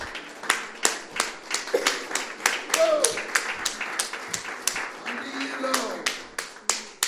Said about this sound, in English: Would you clap your hands to the Lord and give him a little praise right now?